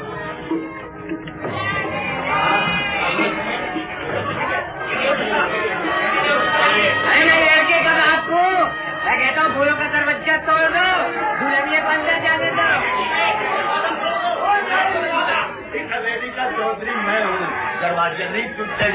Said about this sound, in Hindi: जमींदार की बारात मालूम होती है, हजारों की तादाद में लोग, मगर ये क्या, दूल्हा फेरा बांधे घोड़े की पीठ पर बैठा फूलों वाले दरवाजे के सामने क्यों खड़ा है, आगे क्यों नहीं बढ़ता? कुछ लोग भी ऊंची ऊंची आवाज में बातें कर रहे हैं, चलकर देखते हैं मामला क्या है।